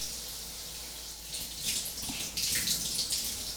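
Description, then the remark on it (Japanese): Running water from a shower sprays steadily, a bright hiss that grows louder and splashier partway through and keeps flowing to the end, with no voices. “じゃあ、シャワーかきますからね。”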